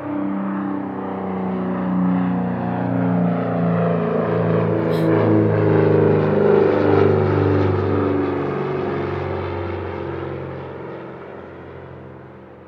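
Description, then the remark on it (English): A propeller airplane flying overhead: a steady, droning engine hum with layered harmonic tones swells gradually, peaks midway, and fades slightly as it passes. No voices are heard. “Every time I hear a plane overhead, for the briefest moment, I picture them inside.”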